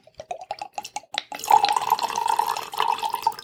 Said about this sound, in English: I do have to pour a little bit more wine.